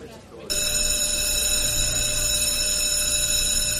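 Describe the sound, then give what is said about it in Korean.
After a brief quiet moment, a loud electric fire alarm bell at McKenzie Junior High School bursts into a continuous, rapid metallic ringing during first period that stays steady until the end; there is no real fire. “일단 아침부터 8학년의 성교육이 열리는 1교시에 화재 경보기가 울려대는 것으로 시작했다.”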